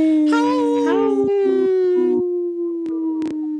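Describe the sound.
Human voices imitate wolves with one long, steady howl that swoops upward early and then holds a level pitch. A couple of sharp clicks cut through near the end.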